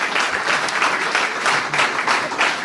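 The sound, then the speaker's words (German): Steady applause from an audience, a dense wash of many hands clapping at a fairly loud, even level throughout, with no voices standing out. “Ich bin noch nicht ganz sicher, weil tosender Applaus, ich höre noch nicht du.”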